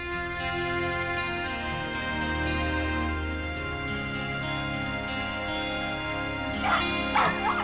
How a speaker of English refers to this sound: Donna, it's 3 in the morning. Will you please do something about your dog?